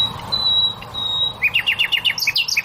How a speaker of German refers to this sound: Wenn Nachtigallmännchen singen, dann wollen sie damit auch die Weibchen beeindrucken.